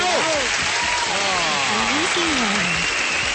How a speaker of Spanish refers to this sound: ¡Fuerte el aplauso, alcalde! ¡Oh, fuerte!